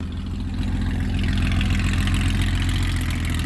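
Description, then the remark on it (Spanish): A Porsche 911 car engine idles steadily, a deep, throbbing low rumble with a rough mechanical texture, holding an even loudness throughout with no voices; heard in Porto-Vecchio, Corsica, at the start of the Tour de Corse Historic. “Este es un Porsche 911.”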